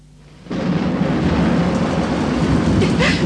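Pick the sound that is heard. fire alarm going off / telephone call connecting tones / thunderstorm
thunderstorm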